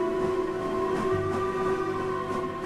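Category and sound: vehicle, train departing from platform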